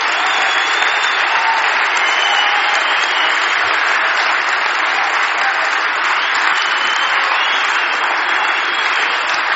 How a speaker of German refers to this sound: Und ich denke, wir sollten jetzt einmal aufstehen und wir sollten Jesus mal ganz kräftig mit einem Applaus dafür danken, dass er den Heiligen Geist in unser Leben senden wird.